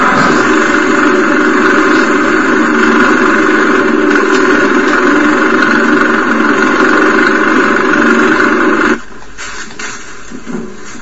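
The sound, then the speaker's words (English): A small engine running on alcohol fuel (Everclear) runs loud with a steady, droning hum for about nine seconds, then abruptly cuts out as it runs out of alcohol, leaving only faint background noise. “You can smell it in the exhaust when it's burning, too.”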